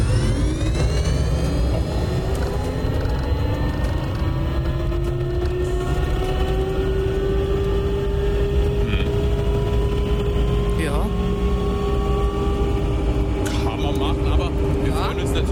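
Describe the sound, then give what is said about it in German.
A synthetic electric-car warning sound proposed by the United Nations plays on its own, a steady layered drone of tones that slowly rise in pitch as if the vehicle is accelerating, loud and continuous throughout. “Vielleicht orientieren sie sich ja an dem Vorschlag der Vereinten Nationen. Der hört sich übrigens so an.”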